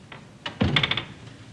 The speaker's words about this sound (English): One evening, the front door opens and Archie enters.